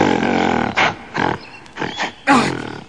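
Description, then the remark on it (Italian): A giant gorilla roars loudly: one long, rough, rumbling bellow, then four shorter growling bursts in a ragged rhythm, the final one strong and drawn out. No one speaks. “Guarda davanti a noi! Un gorilla gigantesco!”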